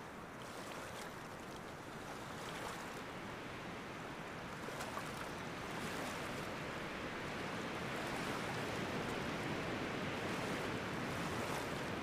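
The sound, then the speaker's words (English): Small waves break gently and steadily under a grey overcast sky, a soft continuous wash of surf with faint rising swells and no voices, the hiss holding at an even, moderate level throughout. “Aside from the slow lulling of small breaking waves, there is no noise to speak of.”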